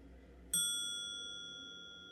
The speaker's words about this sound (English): I broke the pattern somewhere, so it's just dinging. Just little dings. That's cute, but that's totally not what I wanted it to do.